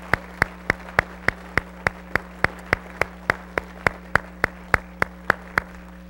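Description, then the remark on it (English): A church audience claps for the choir together in a steady, even rhythm, about three sharp claps per second, with no voices and a faint low hum underneath. “But I want, on behalf of myself and our entire congregation, I want to thank our choir by giving them a good round of applause.”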